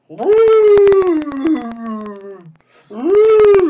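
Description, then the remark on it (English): A human voice imitates a whale call with two long, loud, wavering moaning tones that slide downward in pitch, separated by a short pause. “Do you know how to speak whale now that you took in Kevin and his brother? No, I do not. That was just fake.”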